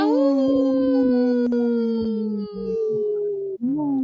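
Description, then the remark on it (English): Wolves howl in long, sustained, mournful tones that overlap and waver in pitch, loud, with a fresh rising howl starting near the end. No one speaks. “The wolves say no!”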